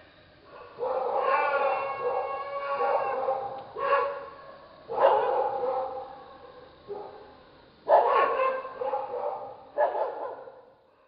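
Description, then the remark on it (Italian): A dog howls at night in several drawn-out, wavering bouts with short pauses between them, answered by a fainter howl from farther away, the mournful tones rising and falling at a moderate, somewhat distant level with no one talking. “Dopo si alzò l'ululato di un cane lontano nell'aria notturna e gli fu risposto da un ululato più attenuato, da più lontano.”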